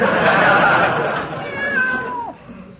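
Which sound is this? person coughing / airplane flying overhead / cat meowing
cat meowing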